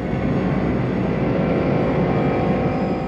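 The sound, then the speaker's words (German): A loud, steady roar of airplane engines during takeoff, a dense low rumble filling the whole stretch without pause and with no voices. “Nichts, wir sind bloß gestartet.”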